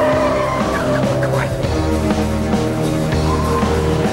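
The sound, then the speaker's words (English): A speeding Volvo's tires squeal and skid loudly as it takes a sharp left turn into an alley. The high screeching sweeps over a constant roaring engine and continues for a few seconds. “They take a sharp left into an alley.”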